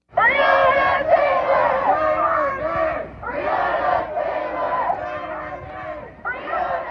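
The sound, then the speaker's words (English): A large protest crowd in the streets of Portland, Oregon, at night shouts together in loud, sustained bursts, voices rising in unison for a few seconds, briefly dipping, then surging again in a rough chanting rhythm. “announcement that no charges would be filed against two of the Louisville police officers involved in the shooting death of Breonna Taylor, people took to the streets in places like New York, Denver, and Portland.”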